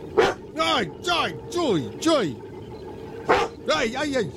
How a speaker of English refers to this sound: We do. Named Braun. Yes. But he never says anything. We've been working on trying to get him to bark, right? Yes. Let's see if it works.